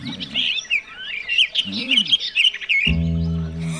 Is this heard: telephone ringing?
no